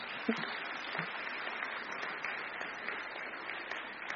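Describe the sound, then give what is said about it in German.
An audience claps steadily for about four seconds, a dense, even wash of many hands with no talking over it, applauding a great-grandmother present in the audience. “Jawohl, ein großer Applaus für die Urgroßmutter.”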